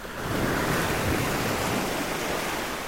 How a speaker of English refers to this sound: They were recorded by sound artist Cédric Perronnet near a stretch of beach called La Grande Côte. This is a sound recording of ocean waves. I am standing in front of Atlantic Ocean, foot in sand, and I listen closely to the endless rhythm of waves.